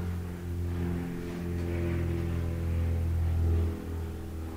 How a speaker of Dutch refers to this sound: Je hoort een vliegtuigje. Je zegt, ja, ik zit hier. Die piloot die zit er heerlijk in de blauwe lucht.